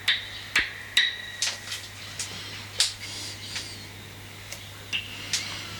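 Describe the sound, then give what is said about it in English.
Footsteps on a hard surface: a dozen or so sharp, clicky taps with a faint metallic ring, falling in an uneven walking rhythm over a steady low hum, with no voices. “I guess this stepping noises.”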